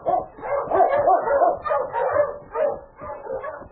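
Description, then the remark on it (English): Sled dogs bark and yip excitedly in a rapid run of overlapping bursts as they are started to pull a sled, fairly loud, with no voices over them. “Now get the dog started, quick.”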